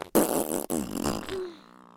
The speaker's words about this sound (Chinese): 老公，我又要放屁了。